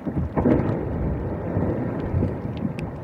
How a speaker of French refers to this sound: Alors, ces petits bruits signifient tout simplement que la banquise est en train de craquer sous vos pieds. Et quand elle craque carrément, on peut même avoir l'impression d'entendre une sorte d'orage.